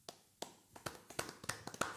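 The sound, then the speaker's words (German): A quick series of about a dozen sharp knocks on a wooden beer table, footballer-style table-knocking applause for Max Zabel, irregular at first and then picking up pace, like knuckles rapped in applause, with no voices. “Wollen wir mal so einen richtigen Fußballer-Biertisch-Applaus?”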